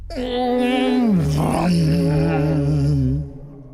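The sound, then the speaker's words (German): Loud, deep droning from a cello in an attic as its strings are struck, one sustained tone that slides downward in pitch and then holds steady for about three seconds before cutting off. No voices. “Dröhnte es laut, denn das große Etwas war ein Cello.”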